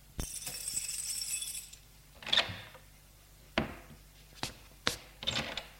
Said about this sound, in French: On entend la porte de l'entrée qui s'ouvre.